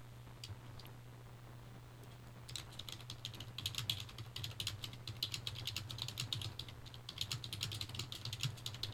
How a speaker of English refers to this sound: Okay, sending an email message to somebody here to work on the problem. Can you hear me typing in the background?